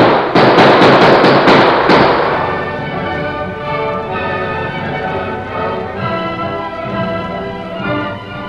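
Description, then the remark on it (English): A rapid volley of about seven sharp, loud gunshots, fired after fleeing riders, cracks out in quick succession, then gives way to a sustained, steady tonal wash with no further shots. “Come on, let's swing lead after them.”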